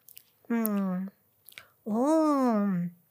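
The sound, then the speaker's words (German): Someone chews noisily on a blade of grass picked by a stream, with a few wet mouth clicks, making two drawn-out humming 'mmm' sounds while savouring the mouthful, the second hum longer and rising. “pflückt einen, kaut ihn und stellt fest.”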